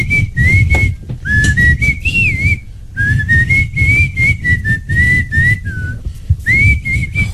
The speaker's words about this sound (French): Mais c'est toi qui siffle.